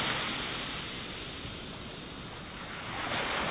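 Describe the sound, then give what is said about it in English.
Steady ocean surf washes onto the shore in a broad, continuous rush, dipping slightly in the middle before swelling again as another wave rolls in, with no voices present. “Walking along the shore. Stepping forward.”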